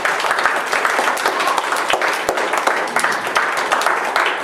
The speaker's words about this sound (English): Amen. We want to have applause.